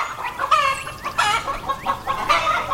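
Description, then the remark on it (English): A flock of chickens clucks and squawks in quick, overlapping bursts, with a rooster's crow rising among them. No one speaks. “In the Zoroastrian religion and in Greek mythology, chickens were considered sacred, responsible for bringing light to the world.”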